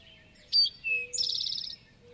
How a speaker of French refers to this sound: Les connaisseurs des chants d'oiseaux en ont même clairement reconnu certains. Le toï à flanc roux, par exemple.